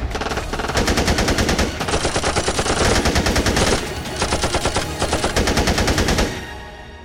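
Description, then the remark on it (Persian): Loud, rapid automatic gunfire rattles in three long sustained bursts separated by brief pauses, a dense stream of sharp cracks that fades into a lingering echo at the end, as bullets hit a car's hood, tearing it off onto the car's roof. No voices. “تو همین لحظه گلوله ها به کاپوت ماشین خورد و کاپوت کنده شد و افتاد روی سقف ماشین.”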